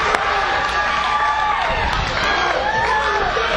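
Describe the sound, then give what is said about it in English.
A large crowd at a wrestling match cheers loudly and continuously as a wrestler slams his opponent down, a dense roar of shouting with piercing whistles and whoops rising above it, filling the whole space. “Slams Walker down, and the crowd is going nuts here.”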